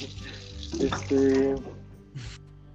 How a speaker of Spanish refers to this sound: Perdonen que se escuche otra vez el agua, pero es que estoy lavando la fruta.